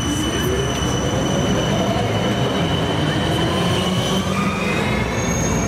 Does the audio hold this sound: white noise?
no